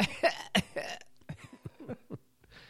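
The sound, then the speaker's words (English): A quick cluster of harsh coughs from a person with bronchitis, loud at first, then trailing off into softer, raspier coughs and throaty catches, with no talking. “But fortunately, the coughing comes indiscriminately.”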